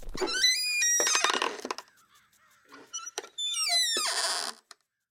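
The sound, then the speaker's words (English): The squeaky door of an oversized two-car garage creaks open with two loud, drawn-out squeals and a scraping rattle between them, with no one talking. “opened the squeaky door.”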